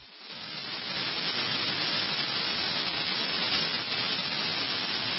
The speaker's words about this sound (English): That's clapping.